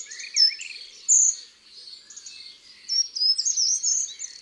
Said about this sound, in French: Le chant et les cris du troglodyte.